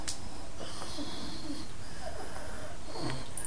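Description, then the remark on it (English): A person imitates heavy, labored breathing: a few rough, noisy breaths drawn in and pushed out, with a slight wheezy hiss and no talking. “And the breath also, you see someone breathing like this.”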